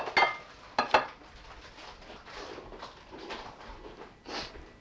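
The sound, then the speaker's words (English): Dishes and plates clatter, starting with a few sharp ringing clinks in quick succession, then softer scraping and rattling as items are shifted about. No one speaks. “A bit of banging and crashing on this tape.”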